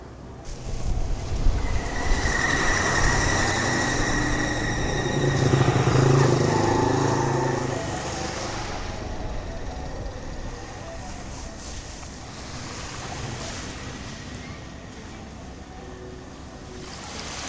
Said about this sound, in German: Nächtlicher Spaziergang am Hafen von Skala.